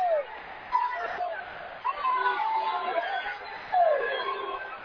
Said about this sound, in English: You can probably hear the crowd a little bit around us.